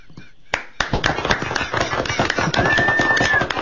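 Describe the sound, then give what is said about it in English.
Someone imitates Mr. Ed the horse with a fast, steady run of loud clopping clicks like hooves, joined near the end by a thin, high whinny-like whistled note. “The horse sound”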